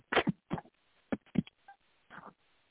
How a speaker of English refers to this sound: I'm sorry, I dropped y'all. I dropped the phone. Whoops. Did y'all feel it? Did anybody get hurt?